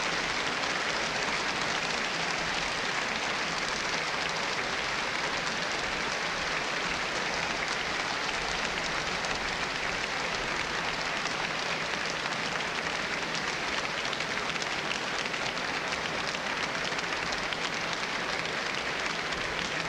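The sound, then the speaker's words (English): Sustained applause from a large audience for guest conductor Otmar Sweetner, who is returning to the stage for a bow after a work by Johannes Brahms. A dense, steady crackle of many hands clapping at an even loudness for the whole stretch, with no voices standing out. “The applause should bring him back.”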